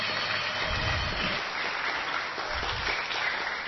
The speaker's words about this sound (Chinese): 好，来给精彩掌声鼓励一下。